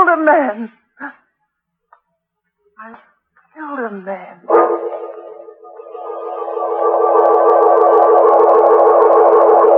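A squeaky door creaks open with a long, wavering, droning groan that swells louder and holds to the end, after a few short whining squeals.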